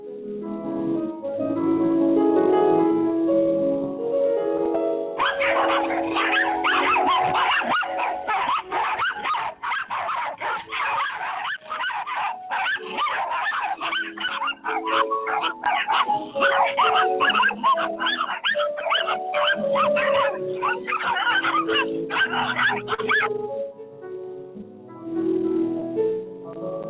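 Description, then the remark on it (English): A pack of real chihuahuas barks in a rapid, overlapping flurry of high yips over soft piano music by Claude Debussy, the frantic yapping dense through the middle before the piano is left mostly alone at the end. “Folks, that's Claude Debussy and a pack of real chihuahuas barking, and that's dedicated to Bill McCamley.”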